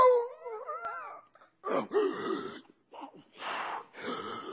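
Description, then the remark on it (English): A preacher in a sermon imitates Jacob roaring back: first a wavering, howl-like cry, then several rough, breathy growling bursts separated by short pauses. “You imagine Jacob just roars right back.”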